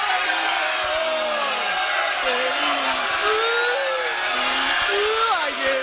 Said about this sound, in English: Now, was the booing because he was reading the lyrics from his phone?